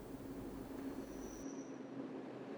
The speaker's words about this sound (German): Der Zug fuhr weiter in Richtung Osten, in das besetzte Polen.